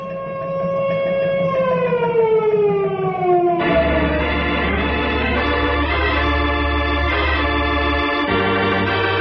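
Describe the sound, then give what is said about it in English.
A loud disaster alarm siren, sounded to warn of a tornado heading down the valley, wails steadily, its tone sliding downward before a harsher, layered blare with a deep low drone takes over and holds. “Henry, sound the disaster alarm.”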